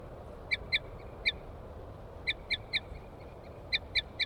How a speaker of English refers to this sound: Female, toops. Male chitter on approach.